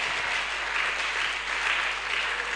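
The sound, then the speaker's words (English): A crowd applauds steadily, a dense wash of many hands clapping at once with no single claps standing out, holding at an even, moderate loudness throughout. “Oh, you are not clapping.”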